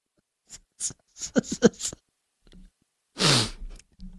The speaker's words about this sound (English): He just burps into the microphone after.